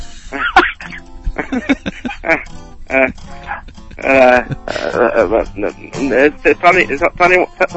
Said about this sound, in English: I hear a dog in the background. It ain't my dog. I gave my dog Xanax about 6 o'clock tonight,